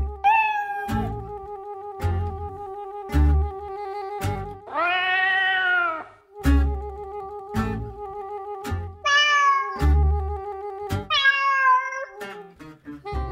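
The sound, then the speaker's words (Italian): A Peterbald cat, a talkative Russian hairless breed, meows a few times, with drawn-out, rising-and-falling cries standing out clearly over a steady humming tone and regular sharp clicking beats in the background. No one speaks. “E quindi sono rimasta veramente affascinata a scoprire che il Peterbald, lei l'ha soprannominato l'intellettuale senza pelo, è un gatto russo, chiacchierone, intelligente e attivo.”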